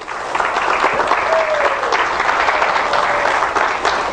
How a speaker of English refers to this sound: Let's give a wonderful hand of applause to all those who'll be watching by internet today.